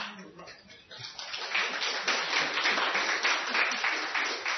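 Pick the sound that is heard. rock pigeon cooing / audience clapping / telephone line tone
audience clapping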